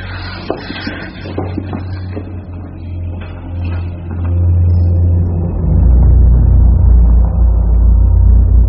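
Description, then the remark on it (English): A low, rushing wind drones through an enclosed passage, swelling steadily louder and deeper over several seconds after a few faint knocks and rattles at the start. “Where's that wind coming from?”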